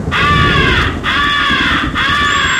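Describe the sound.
Three loud, harsh caws blown on a crow game call, the 'come here' call imitating a crow in distress to attract crows, each a long raspy blast with brief pauses between, insistent like a distressed crow.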